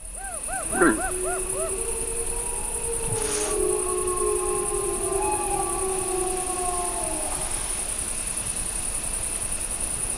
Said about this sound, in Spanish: Ahí se queja un ciervo, esa tos así como de alarma, y al fondo, pues eso, una manada. No, se oyen varios. Sí, claro, las manadas, los lobos.